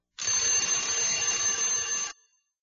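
A loud, continuous alarm clock bell rings nonstop for about two seconds with a harsh, metallic clatter, then cuts off abruptly. No one speaks.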